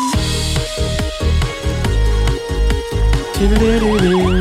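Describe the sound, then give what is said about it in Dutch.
A loud, punchy jingle with steady beats, where a wailing siren effect rises and falls in repeated sweeps over the music near the end. No one speaks. “Die sirene ook echt.”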